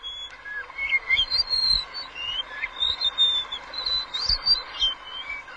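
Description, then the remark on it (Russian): A blue whistling thrush sings a series of clear, flute-like whistled phrases, rising and falling melodically over a steady outdoor background, with no one speaking. “Пение удивительное, мелодичное, флейтообразное, приятные такие колена.”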